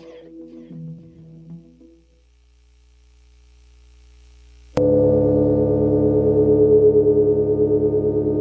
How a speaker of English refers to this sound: You're listening to …. Live stream of an analog drone synthesizer played by the weather, made by ….